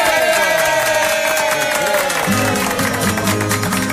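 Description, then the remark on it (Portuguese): A crowd applauds the brothers steadily and loudly for several seconds, the clapping blending with instrumental music that keeps playing underneath. “Aplausos para os irmãos.”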